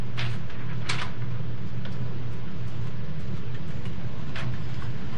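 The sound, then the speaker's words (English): An old-fashioned printer prints out a service call for dispatch, running with a steady low mechanical hum and hiss, broken by a few sharp clacks and rattles at irregular moments, with no voices. “So once it goes over, this, you know, it gets printed, old school printer.”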